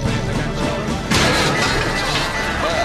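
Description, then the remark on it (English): A vehicle slams into a side target worth 10 points with a single loud, crunching smash partway through, followed by a lingering noisy rattle over a steady background roar of engine and crowd. “But the Megs just can't resist the glory of a side-smashing 10.”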